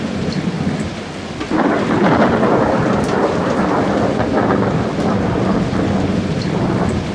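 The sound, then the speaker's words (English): Heavy rain pours steadily while deep thunder rolls and swells after a brief lull, the storm loud, a continuous wash of rumble and hiss with no voices. “Rumble thy bellyful, spit fire, spout rain. Nor rain, wind, thunder, fire are my daughters.”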